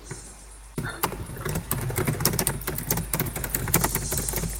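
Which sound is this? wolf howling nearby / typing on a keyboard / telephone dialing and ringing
typing on a keyboard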